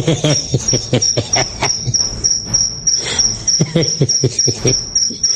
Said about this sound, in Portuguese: Agora lascou. Um grilo cantando bem aqui no meu quarto.